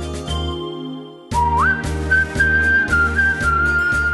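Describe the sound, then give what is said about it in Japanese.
A clear whistled melody in a requested whistle music track glides up and holds long notes over a steady music track with a regular beat, starting after a brief quieter musical intro. “そしてご要望の多かった口笛の楽曲も制作しました。”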